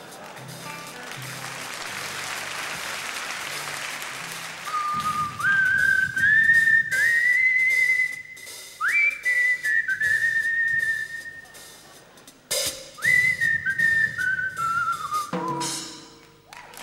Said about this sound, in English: he began whistling a tune this time to accompany himself.